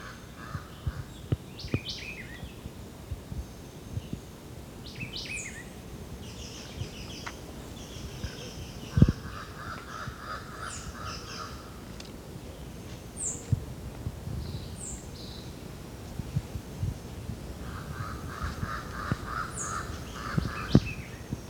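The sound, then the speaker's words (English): Jabbering crow calls in several bursts of harsh, babbling notes, about 30 meters away in dense vegetation along a ridgetop, with thin high chirps of smaller birds scattered between them over a low outdoor rumble. “It's the white eye again. Jabbering crow.”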